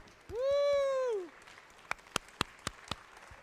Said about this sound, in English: Hello, party people. Get ready to clap.